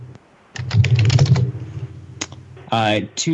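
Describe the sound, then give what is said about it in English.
Rapid typing on a computer keyboard while searching Google for a zip code: a dense burst of clicking keystrokes followed by a few scattered taps, with a brief voice-like sound near the end. “Hold on. Let me get it. 1 second. I have to Google that.”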